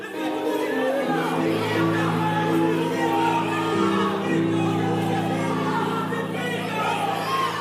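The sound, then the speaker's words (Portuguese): A large crowd in a stage play of Jesus' trial shouts together loudly and without pause in answer to Pilate, many overlapping voices forming a dense roar with sustained, chant-like tones running through it. “Perguntou Pilatos, mas eles gritavam ainda mais.”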